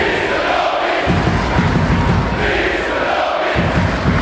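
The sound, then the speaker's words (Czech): A hockey crowd in Kladno applauds and cheers continuously after the home team's 8-1 win over Vítkovice, calling for forward Tristan Robince at the post-game thank-you, a loud dense roar of clapping and voices with rhythmic chanting pulses, the low end swelling and dropping back around a second and again near three and a half seconds. “Kladenským hokejistům se tleskalo ještě dlouho po zápase a na děkovačce si kotel vyžádal speciálně útočníka Tristana Robince.”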